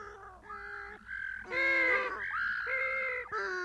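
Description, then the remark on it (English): Penguins call loudly and nonstop in a noisy chorus of harsh, braying honks, several overlapping calls rising and falling with no one speaking. “What a noise those penguins make.”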